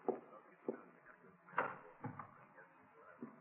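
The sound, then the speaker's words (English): A bedroom door being opened, heard as a series of soft wooden clunks and knocks spread across a few seconds, fairly quiet, with a faint room hum underneath. “Where's that door lead over here? Bedroom. All right, if I take a look?”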